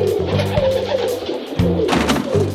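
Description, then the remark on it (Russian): Pigeons coo in low, throaty, rolling bursts, several calls overlapping in a steady chorus with no pauses and no voices. “Голубиная почта России.”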